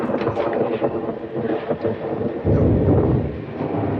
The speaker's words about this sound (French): Cet orage va être magnifique.